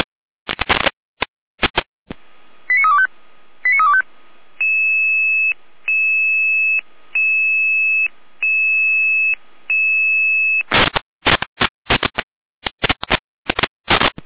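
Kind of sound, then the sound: signal or alarm, radio dispatch alerting tones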